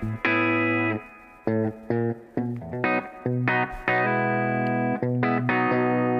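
Electric guitar played through an F-Tile amplifier plays a series of loud, sustained chords and notes with a slightly overdriven, effected tone from the amp's built-in reverb, each strike ringing out before the next in an uneven rhythm.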